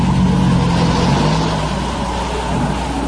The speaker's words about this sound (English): The guard glances into the car, then closes the door and signals a colleague to raise the barricade. The snow-covered car drives through the gate.